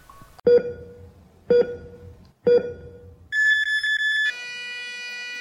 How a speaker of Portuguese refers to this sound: De repente, um monitor cardíaco estava apitando, indicando o óbito.